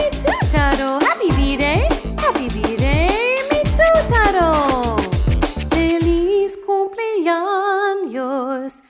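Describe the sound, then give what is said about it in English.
A dog howls along to a happy birthday song in a series of sliding, wavering notes that rise and fall, ending in longer held tones, with a human voice singing mixed in. “My dog says, woo, woo, to you, Mitsutaro.”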